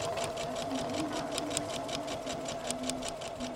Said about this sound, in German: Morschreuth im Landkreis Forchheim. In der Kulturwerkstatt Fränkische Schweiz sitzen fünf Frauen an ihren Nähmaschinen.